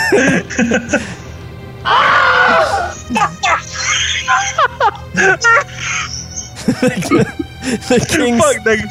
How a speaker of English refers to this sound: The two boys run out of the room and are heard yelling and screaming down the hallway.